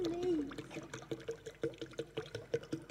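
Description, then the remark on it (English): Ordinary still water glugs out of a bottle into a big glass in a steady run of rhythmic gurgles, moderately loud, with a brief voice-like tone at the start. “It's just holding in suspense here while I pour it out.”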